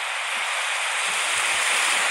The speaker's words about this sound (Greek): Μια φουσκοθαλασσιά. Ακούστε. Είναι αυτό, τι συμβαίνει? Ακούτε τα κύματα?